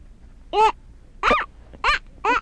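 Four short, sharp, loud dog barks come in a steady, evenly spaced rhythm, with nothing else sounding between them.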